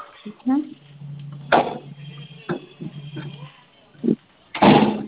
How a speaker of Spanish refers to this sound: Ahora, abre y cierra su puerta del personal.